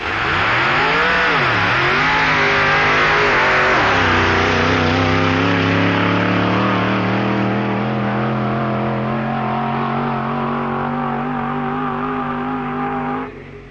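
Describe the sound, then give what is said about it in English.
A loud Willys coupe drag racer of vintage appearance revs up and dips in the first few seconds, then holds a steady, harsh, roaring note until it abruptly stops near the end. “the two Willys Coupes, or Coupes in their parlance, of vintage appearance and shattering performance.”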